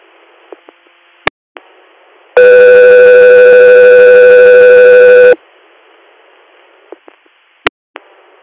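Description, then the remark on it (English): Radio dispatch alert tone for Guthrie Air: one loud, steady, buzzy tone holding for about three seconds, framed by a faint static hiss and a few sharp clicks before and after. No one speaks. “Guthrie Air, standby for tones.”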